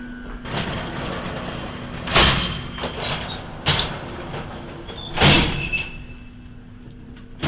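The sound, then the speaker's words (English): Inside a nuclear reactor building, a door opens and shuts with a few heavy clunks and sliding thuds, spaced over several seconds, as people go through it into a lift, above a steady low mechanical hum. No one speaks. “Now going through a door and heading into a lift.”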